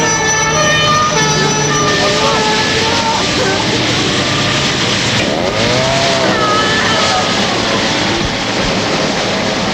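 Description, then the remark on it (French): Loud emergency sirens from fire engines and rescue vehicles wail and overlap, with sweeping rising-and-falling tones over a dense rumble of traffic and engine noise throughout. “Les pompiers, les secours sont de partout.”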